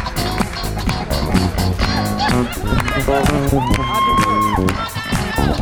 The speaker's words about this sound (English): So we praise God. Would you give Jesus a round of applause? Thank you.